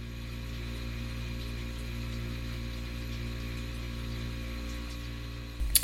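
A steady electrical buzzing hum of a refrigerator drones on at an even level, low and constant, with a brief louder click-like burst near the end and no voices.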